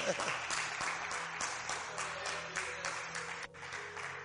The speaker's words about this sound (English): Clap for God.